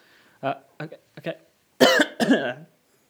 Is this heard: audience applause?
no